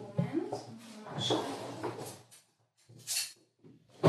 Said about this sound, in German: Klingt nach so einem Besteckschrank. Besteckschublade.